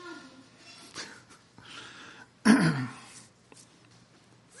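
A single abrupt sneeze bursts out, loud and brief, then fades back into quiet with faint background rustle and no talking.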